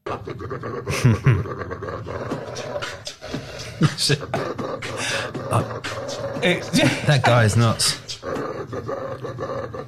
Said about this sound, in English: Would you put your head that close to a dog making those noises? It's the most vicious looking dog in the world that he's kind of opening and closing his mouth to make noise.